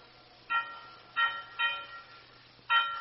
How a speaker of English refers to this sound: When you're coming out to see her, I ring the bell, special light, like this. Yeah, that's the way I know her. And that way she knows you're on the car. And then, on the nights when you ain't coming, I ring the bell like this.